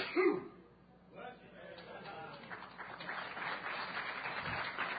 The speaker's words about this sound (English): That's the most applause I've ever gotten. It was for me freaking sneezing.